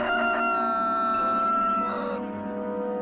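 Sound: rooster crowing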